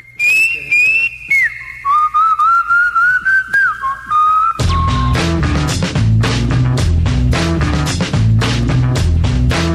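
A bright whistled melody with gliding notes opens the song over sparse backing, then a full band with drums crashes in about halfway through and the whistling drops away.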